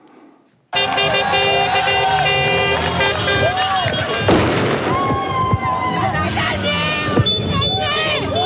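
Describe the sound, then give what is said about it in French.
A dense chorus of car horns honks continuously after a brief quiet start, layered with crowd noise and loud bangs: a parade of honking cars greeting an arrival at the Hôtel de la Gare, like a noisy street celebration. “Et ensuite, l'arrivée, votre arrivée à l'hôtel de la gare et un défilé de klaxons.”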